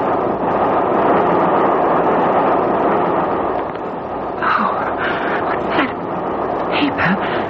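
A steady rumbling roar of a swaying train carriage rolling along the rails on a non-stop train from Brighton to Victoria, continuous throughout, with a few brief higher squeals or murmurs rising over it in the second half.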